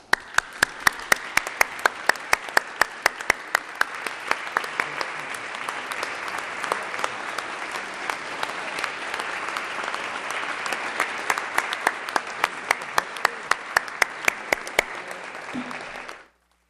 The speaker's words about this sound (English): And the interns and all of our partisan and administrative staff, we truly thank you all, and a joint applause for all.